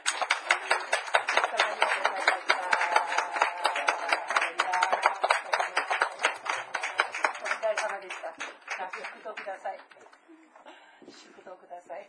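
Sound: audience applause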